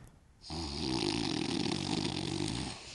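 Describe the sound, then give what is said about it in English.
A single long, rumbling snore performed by a human voice, imitating a man asleep in the back corner of a meeting, starting after a brief pause and sustained loudly for about two and a half seconds. “There was a guy who used to sit in the back corner and go to sleep and snore for the entire thing.”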